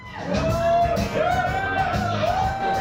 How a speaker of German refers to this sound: aber das Publikum in der Bar, in der er auftritt, johlt schon.